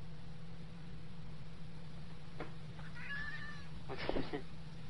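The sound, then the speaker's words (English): A cat gives a short, drawn-out meow followed by a brief second cry, fairly quiet against a steady electrical hum and background hiss, with a faint tap just before. “Oh, my cat's funny.”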